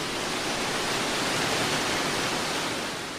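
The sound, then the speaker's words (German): Water pours steadily down a waterfall into the first large pool of the Kuhfluchtfälle, clear and cold water, with a dense, continuous rushing roar, fairly loud, unchanging throughout with no voices. “Dann kommen wir an das erste große Becken der Kuhfluchtfälle. Das Wasser ist klar, rauscht runter, es ist kalt.”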